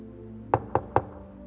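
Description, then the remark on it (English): Three sharp knocks in quick, even succession, fairly loud, rapping on a hard surface over a faint steady background hum. “But I knock once, knock again, and knock again, and knock again.”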